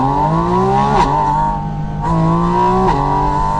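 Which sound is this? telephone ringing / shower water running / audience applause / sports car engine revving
sports car engine revving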